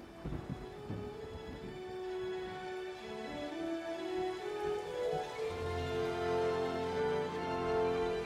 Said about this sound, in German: Eine gespenstische Stille umhüllt die Szenerie, lediglich von Regen und Donnergrollen unheilvoll belebt.